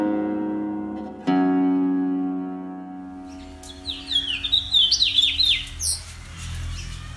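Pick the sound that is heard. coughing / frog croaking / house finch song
house finch song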